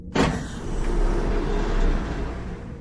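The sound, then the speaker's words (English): A spacecraft ramp extends from the opened airlock on the moon, activating non-slip texturization, with a sharp mechanical clunk, then a steady whirring motor hum over a low rumble that holds for a few seconds before easing off slightly. “Extending ramp and activating non-slip texturization.”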